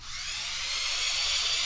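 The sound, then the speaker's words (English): A person imitates a drill with a steady, hissing, high-pitched whir, held continuously for under two seconds and swelling slightly louder toward the end, with no other sounds around it. “Just stand up and make the drill go around and around, and I'll make some drilling kinds of noises.”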